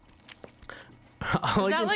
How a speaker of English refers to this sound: All I can hear is like chewing right now.